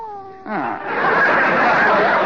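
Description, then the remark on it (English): A person imitates the meow of a cat named Minerva: a short tonal cry with falling pitch, then a louder, strained, wavering meow that stretches out over a breathy, noisy backdrop, fairly loud. “Oh, it's the cat.”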